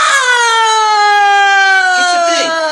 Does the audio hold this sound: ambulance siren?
yes